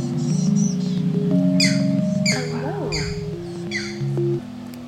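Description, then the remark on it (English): Green heron chicks squawk in about five harsh, raspy bursts at a fairly steady pace, fairly loud, over a low, steady droning hum. “They're little green herons. They've nested here for years, and their babies make these just awful, squawky noises.”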